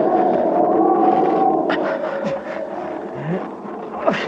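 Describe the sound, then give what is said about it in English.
Howling wind on a mountain at about 17,000 feet, carrying fine, powdery snow, moans steadily: a sustained wavering tone over a broad rushing roar, with brief whistling gusts sweeping up and down in pitch. No voices are heard. “Here, move over here. Might cut some of the wind.”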